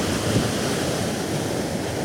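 A steady, full roar of sea surf washing onto the shore, continuous, with a faint windy hiss over it and no voices.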